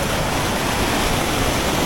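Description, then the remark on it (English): Steady, dense rush of water flowing into the ocean in the morning, like surf or a strong flow pouring into the sea, loud with a constant hiss and low rumble and no voices. “It's really flowing into the ocean now.”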